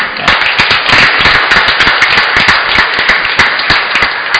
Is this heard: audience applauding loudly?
yes